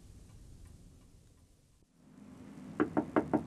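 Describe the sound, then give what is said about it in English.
Four firm knocks on a front door land in quick, even succession after a stretch of quiet room tone, fairly loud, with no voices. “are you in? Not answering door.”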